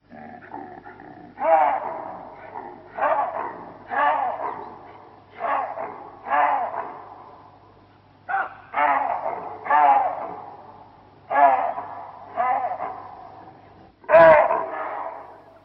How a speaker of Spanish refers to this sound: Otro sonido de alarma es el de los babuinos.